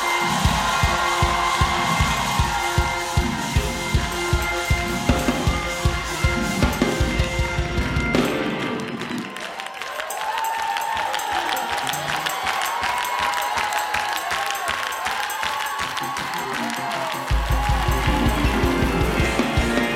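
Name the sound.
audience shouting and clapping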